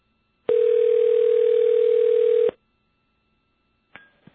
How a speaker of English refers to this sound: That's his phone ringing. Sounds like my phone ringing. Interesting.